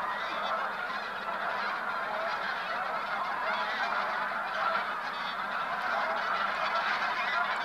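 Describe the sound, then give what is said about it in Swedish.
A large flock of bean geese honks continuously, many overlapping calls blending into a dense, steady chorus that stays loud and even throughout with no talking. “Det här är en sedgås. Ja, eller det är ju inte bara en, det är ju en hel flock med gäss.”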